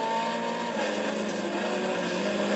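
A race car engine roars steadily at high revs in third gear as the driver eases onto the throttle on a track, fresh out of the pits, a dense, buzzy drone with strong harmonics that holds loud and constant throughout, with no voices.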